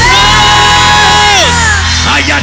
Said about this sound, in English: Somebody shout, Jesus! Jesus! Let me hear you scream, Jesus! Jesus! Let me hear you shout, Jesus!